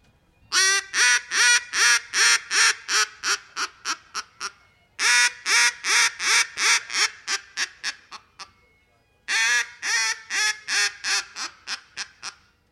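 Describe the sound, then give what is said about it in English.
A handheld mallard drake duck call blown in three loud runs of rapid quacks imitating pintail, teal and mallard drake, each series starting strong then tapering and slowing, with short pauses between and no talking. “And out of this call, you can get your pintail, your teal, and your mallard drake out of it.”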